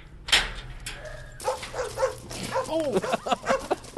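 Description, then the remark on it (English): A pack of tail-wagging dogs bark and yip in quick, overlapping bursts at the Kabul compound of the organization Nozad Dogs, an animal shelter in Afghanistan, with a brief sharp sound at the start and steady background noise underneath. “A pack of tail-wagging mutts greet you as you pass through the towering blast walls into the Kabul compound of the organization Nozad Dogs.”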